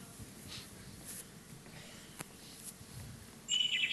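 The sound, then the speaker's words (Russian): Quiet outdoor ambience with a low background rumble, then a short burst of high, twittering bird chirps near the end, clear. “Слышите? Птички.”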